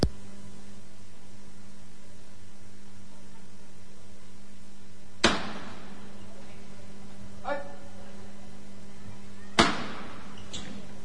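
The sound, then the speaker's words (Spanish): A foreman's hammer knocks on a procession float, a paso de misterio decorated with red carnations, still inside the Basílica del Carmen, sounding after the fiscal alerts the foreman: two sharp, loud wooden raps about four seconds apart, with a fainter knock between them, over a steady low hum and murmur of background noise. “El fiscal que avisa al capataz, suena de nuevo el martillo, todavía en el interior de la Basílica del Carmen.”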